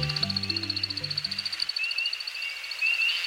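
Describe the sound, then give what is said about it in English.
An American woodcock's courtship flight at sunset over a northern Midwest forest: a rapid, steady twittering of high chirps pulsing throughout, with a couple of brighter chirps near the end and low sustained tones fading out in the first half. “As the sun sets on a northern Midwest forest, we hear a most peculiar sound. It's an American woodcock aloft on a courtship flight.”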